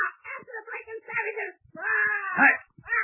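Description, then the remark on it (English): A parrot named Paul Parrott squawks in a string of harsh, wavering, high-pitched cries, with a short pause midway before a louder burst of screechy calls. “You've given us away with your blooming squawking.”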